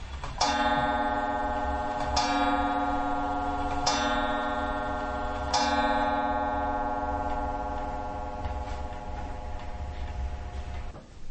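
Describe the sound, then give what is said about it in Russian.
A clock that belonged to Archpriest Vasily Ermakov, the famous St Petersburg elder, chimes four times in steady, evenly spaced strikes, each ringing tone overlapping the last, then the resonant hum slowly fades away. Clear, with no voices. “Такой замечательный звон. Эти часы, которые сейчас прозвонили, принадлежали протоиерею Василию Ермакову, знаменитому петербургскому старцу, настоятелю храма преподобного Серафима Саровского на Серафимском кладбище в Санкт-Петербурге.”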